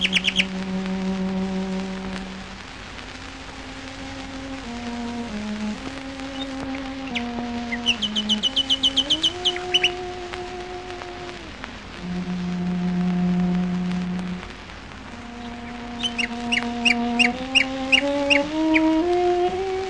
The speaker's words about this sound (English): Who but a genius or a nut could have induced Beatrice Harrison to sit in the middle of a Surrey wood playing Songs My Mother Taught Me on the cello to induce the nightingales to sing?